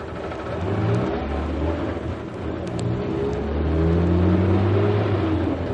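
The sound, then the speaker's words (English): A car engine hums steadily and then revs, its pitch climbing and falling in waves over a constant wash of noise, fairly loud throughout, with no voices; a car in a car park at night in the rain. “I'm perfectly capable of handling this car under any conditions.”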